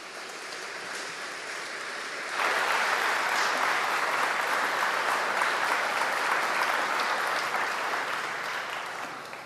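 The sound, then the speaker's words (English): Steady applause from an audience of about 300 people, a sustained wash of many hands clapping that swells louder after a couple of seconds and holds dense and even throughout, with no voices over it. “They never clap for me.”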